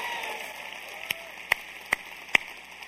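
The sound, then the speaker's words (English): An audience at a John Maxwell and Equip event claps for Jesus, steady in a dense, hissing wash of applause, with four sharper, louder hand claps standing out at roughly even intervals. “Come on, give Jesus a good hand clap.”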